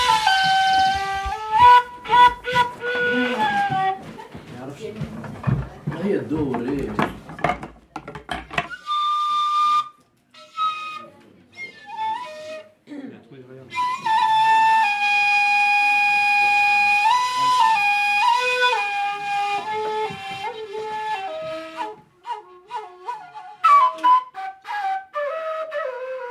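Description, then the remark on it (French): A handmade oblique flute, not a Maghreb flute and without Western fingering, plays a breathy, wandering melody, with sustained tones and quick ornamented runs, pausing briefly before resuming with long held notes and trills. “C'est une flûte oblique.”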